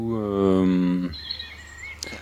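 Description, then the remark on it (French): A low, humming harmonic tone holds for about a second, then cuts off, leaving faint, high-pitched chirps of small birds twittering in the background after a storm. “du coup voilà, après la tempête, des petits oiseaux.”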